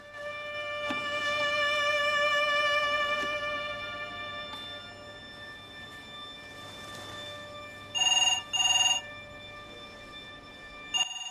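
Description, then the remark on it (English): A home telephone gives a quick, loud double ring with a call from a hospital payphone, after a stretch of soft, sustained tonal background with no voices. “answers the phone at home.”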